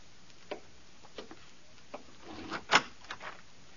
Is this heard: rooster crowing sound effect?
no